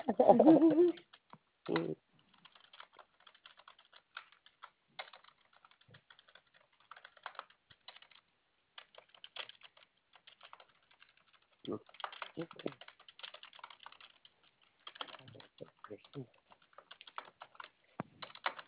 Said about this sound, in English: Oh, you type that.